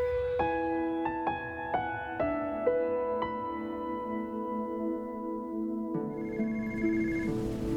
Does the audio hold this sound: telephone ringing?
yes